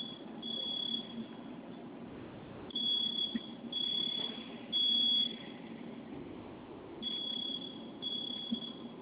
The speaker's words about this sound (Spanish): Perfecto, ahorita esa alarma va a dejar de sonar.